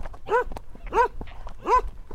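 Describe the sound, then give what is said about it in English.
A small mixed-breed dog, one of a neighbour's not very large mixture dogs on the adjoining small holding, barks three times at a steady, evenly spaced rhythm. The yaps are fairly high-pitched, over a low background rumble. “the next small holding belongs to Tommy, our neighbor diagonally behind us, and he's got a whole lot of mixture dogs, not very large, and he's got a donkey as well.”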